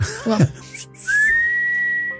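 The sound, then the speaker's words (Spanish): A short burst of voice gives way to a single sustained whistle, a steady tone held for over a second, moderately loud, as someone imitates a whistle they heard. “Y entonces yo seguí cambiándome y otra vez escuché, pero es que no me sale, yo no silbo.”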